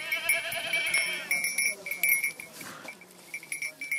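A herd of goats used as grazing firefighters bleating repeatedly, with metallic bells clanking and jingling steadily among them, fairly loud.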